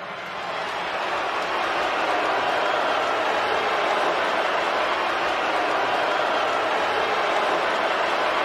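A large crowd at Madison Square Garden roars continuously as a singer comes onto the stage at a singer's 40th anniversary concert. It is a dense mix of booing and cheering that swells in over the first second and then holds loud and steady, with no clear speech.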